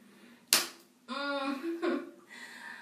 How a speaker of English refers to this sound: And you tell me to slap one of my tits for you.